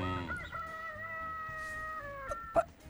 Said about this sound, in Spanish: Gallo. Gallo. Como dije gallina, creí que me dijo. Gallo. Muy bien.